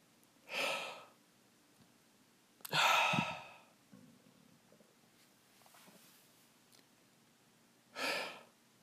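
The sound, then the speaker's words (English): A breathy yawn with long airy exhalations, repeated three times with pauses between, fairly soft and with no talking. “Fortunately, we're releasing as I'm yawning.”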